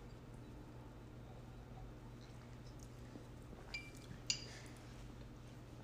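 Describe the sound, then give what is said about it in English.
Two light, ringing clinks of wine glasses touching in a toast in a kitchen, one after the other, with a brief resonant tone, heard faintly over a steady low background hum; the glasses hold a bubbly cranberry Secco wine. “So let's have a drink. Cheers.”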